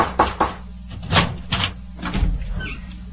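A father knocking on a door, about six solid raps in loose, uneven groups, fairly loud, over a low steady background hum with no one talking.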